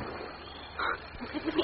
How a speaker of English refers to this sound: It is. A goat. It's a goat. Here, goat.